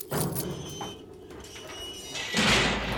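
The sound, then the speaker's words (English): A heavy cell door slides along its track with a grinding, rumbling scrape, ending in a louder metallic clank as it shuts, with no voices. “Go into the cell in the far corner and close the door behind you.”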